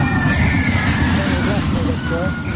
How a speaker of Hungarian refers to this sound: Visítás nélkül nincs Vidám Park. Kukac hullámvasútnál vagyunk, és ez a gyerekek egyik kedvence, és hát nyilván a fizika törvényszerűségnek megfelelően a hátul és az előlőknek nyújt a legnagyobb élvezetet.